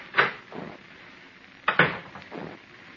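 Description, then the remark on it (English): An office door opens and shuts twice, each time a sharp latch click followed by a softer thud, fairly loud and otherwise quiet with no talking. “I stepped outside the office door and walked over to the brand new stairway of that brand new building.”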